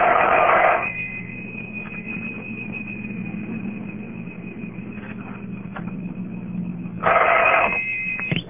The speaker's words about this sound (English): if you dial your own phone number, get a busy signal, and then hang up, the phone will ring back